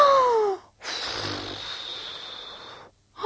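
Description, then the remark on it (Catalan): A person telling the Three Little Pigs story imitates the wolf blowing even harder at a house to blow it down: one long, forceful, breathy whoosh lasting about two seconds, with brief voiced, falling vocal sounds just before and after it. “I va tornar a bufar encara més fort.”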